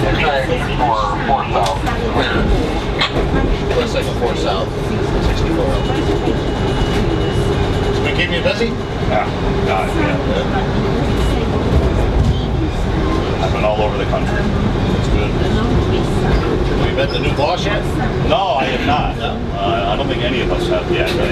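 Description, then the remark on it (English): Steady, loud rumble of a passenger train heard from inside a carriage as it approaches the Peace Bridge, a continuous low roar with faint rattles and clatter throughout, with indistinct voices mixed into the noise. “This is your first train ride.”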